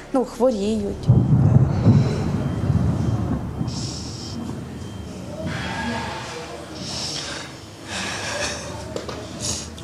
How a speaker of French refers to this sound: Ça recommence. Non, on dirait, mais ce n'est que le tonnerre. Mais ça ressemble beaucoup à une attaque.